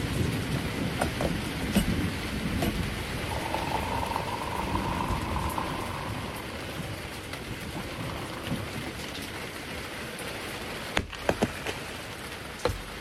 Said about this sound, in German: Jetzt sitze ich unter meinem Terrassendach. Es regnet. Und es gewittert.